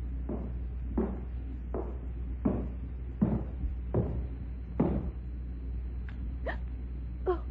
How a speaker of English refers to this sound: Shh, quiet. What is it? Yes. Footsteps.